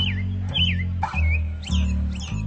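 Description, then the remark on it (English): An American robin sings in a U.S. city long before sunrise: a string of short, warbling caroling phrases in quick succession over a steady low hum of city traffic. “In cities in the U.S., some American robins put on a show long before sunrise.”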